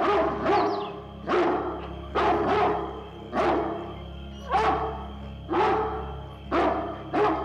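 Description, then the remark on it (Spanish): Hunting dogs bark repeatedly in a steady rhythm, about seven sharp barks spaced roughly a second apart, fairly loud, with no talking. “De repente se oyó el ladrido de unos perros.”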